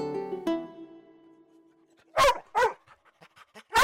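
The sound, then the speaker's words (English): A dog whimpers with a drawn-out, high whine, then breaks into several loud, close barks with a few soft yips in between. “Coming home to a warm, loving welcome every single time with a wagging tail and a smiling snout can be such a tonic for exhausted parents.”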